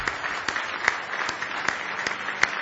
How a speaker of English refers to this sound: Give Him a good hand clap of praise tonight if you love Him.